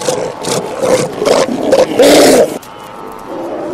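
Sea lions resting on the shore bellow in a string of harsh, throaty roars, four or five loud bursts building to a long final blast before fading to a low rumble. No voices.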